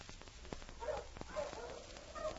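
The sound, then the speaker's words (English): A sled dog team pulling a sled barks in scattered bursts, fairly faint, with sharp knocks and rattles mixed in as the team approaches along the trail leading to Dawson. “It was late the following day that Jake and Dirk heard a dog team coming as they waited beside the trail leading to Dawson.”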